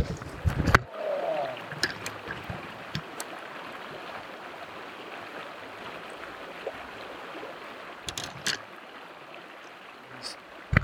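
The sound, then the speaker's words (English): A small wild brook trout, about 3.5 to 4 inches long, splashes and thrashes at the surface of a flowing stream as it is landed on a fishing line, with sharp bursts near the start and again later, over a steady wash of running water. “I've got a little brook trout par on my line here.”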